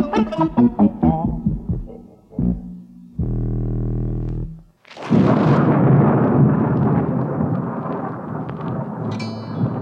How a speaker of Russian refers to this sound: Однажды вечером разыгралась страшная непогода. Гремел гром, сверкала молния, дождь лил, как из ведра.